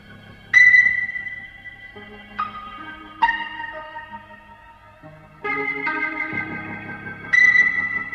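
A rock recording plays slow, sustained keyboard chords that shift every second or two, with a bright, ringing high ping at the start and again near the end. No voices.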